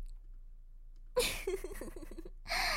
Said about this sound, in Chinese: 是不是因为妹妹轻轻的喘息声又撩动哥哥了呢？热热的气息喷射在哥哥的耳边，有没有撩动哥哥的心呢？